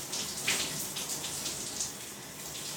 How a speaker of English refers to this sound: All right, getting all the shaving cream all up. Get a nice shower in.